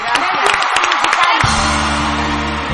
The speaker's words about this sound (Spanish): ¡Un aplauso!